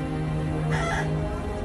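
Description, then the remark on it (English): A rooster crows once, a short, fairly loud call over a steady low hum that runs through the whole moment. No one speaks. “And there is a rooster.”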